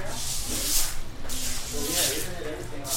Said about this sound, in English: Inside the house, family members use brooms to push the last stinking water out the back door.